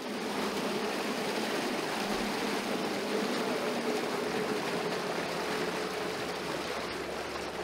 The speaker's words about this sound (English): we reached another trials point where acceleration and braking would be tested. Not that narrowboats need to accelerate fast, but this is a trial after all. The boats each came out of a lock to a standstill and then floored it while being timed.